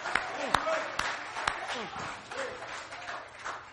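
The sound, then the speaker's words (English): A crowd at a worship service applauds steadily throughout to give the Lord a hand of praise, a dense wash of clapping with a few sharper claps standing out, while scattered voices call out and whoop over it. “Give the Lord a hand of praise.”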